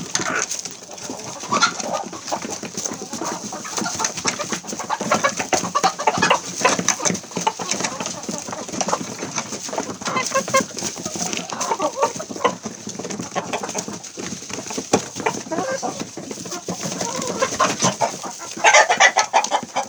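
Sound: chickens clucking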